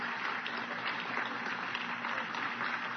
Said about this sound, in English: Hallelujah. Hallelujah. Let's praise Him with a clap. Hallelujah.